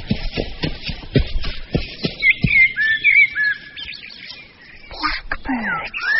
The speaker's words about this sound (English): Blackbirds. Hello, blackbirds.